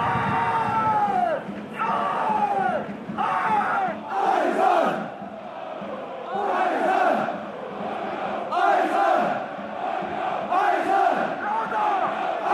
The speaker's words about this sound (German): Auf 2 kleinen Podesten stehen die Vorsänger der Ultras. Mit dem Megafon in der Hand, den Rücken zum Spielfeld, fordern und treiben sie die Anhänger in neue Rhythmen, neue Gesänge.